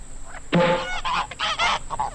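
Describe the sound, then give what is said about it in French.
Several loud, nasal goose honks overlap in quick, uneven bursts, a small flock of wild geese being released and calling, with no one speaking. “C'est pourquoi je vous propose aujourd'hui, en lieu et place du traditionnel quiz cinéma, un lâcher d'oie sauvage.”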